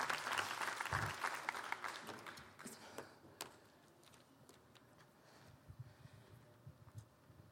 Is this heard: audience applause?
yes